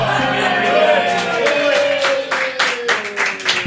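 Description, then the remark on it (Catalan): An audience claps and cheers in a dense, steady burst of applause lasting a few seconds, with crowd voices and a sustained tone beneath the clapping. “La gent està aplaudint perquè pensaven que anava a dir torero.”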